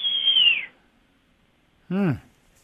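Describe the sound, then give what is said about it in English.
A person whistles a long, piercing high note that sags downward at the end, imitating a hawk's screech, followed after a pause by a short, wavering vocal cry. “Sort of a high whistle, like a like that, like yeah, an eagle. I mean, like a hawk. It's a very high screech.”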